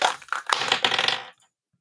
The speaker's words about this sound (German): dein Thema, ich würfel mal für dich.